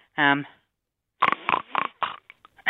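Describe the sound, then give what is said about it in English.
A person imitates a pig as a vocal warm-up, starting with a short, nasal squeal, then after a pause a quick run of rough, snorting grunts, fairly loud. “I would warm your vocals up with the human pig and then finish off with your human second alternative.”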